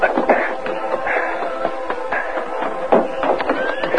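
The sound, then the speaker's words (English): A horse whinnies amid a busy clatter of hooves, with fairly loud bursts of snorting and shuffling movement and no one speaking. “Then he hurried out the back door, got his horse, and headed for the ranch.”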